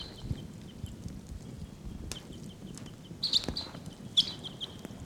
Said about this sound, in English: Wild birds are calling. I think they may take off.